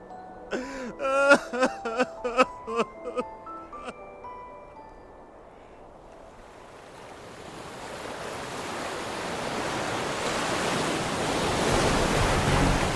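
A few bright chime-like musical notes ring out, then fade into a broad rushing surf of giant ocean waves that swells steadily louder, rolling in and breaking on a beach.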